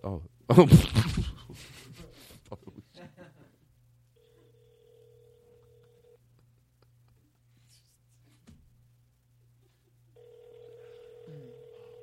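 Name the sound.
telephone ringing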